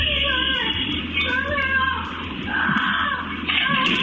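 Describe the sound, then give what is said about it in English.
A parrot screams in a shrill, loud, woman-like wail, with sustained cries that rise and fall in pitch almost without pause. No one speaks. “That's a parent, and police thought it was a real woman screaming for help, so they showed up.”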